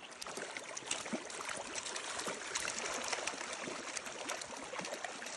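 Steady rushing river water fills the scene, fairly loud, with small splashes and trickles as a Pacific lamprey is released into the river's current by a lamprey technician of the Confederated Tribes of the Umatilla Indian Reservation. No voices.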